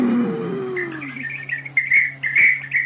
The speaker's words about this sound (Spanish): ¡Ah! ¡Es mi perico! Es que le platico siempre.